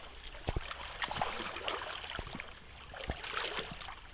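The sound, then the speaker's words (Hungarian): Splashing and sloshing of shallow water, with irregular footsteps sloshing through a stream over a steady gurgling background; no voices. “Beléptünk a patakba.”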